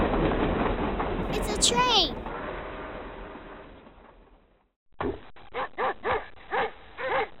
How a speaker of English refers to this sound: A dog.